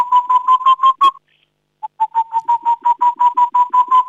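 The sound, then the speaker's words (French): A person imitates a Tengmalm's owl call with a quick, even run of hollow hooting notes: about six, a short pause, then a longer run of a dozen or so, loud. “Allez, tu nous les refais là, ces deux types de chouettes. Oh, la petite de Tegmalm ?”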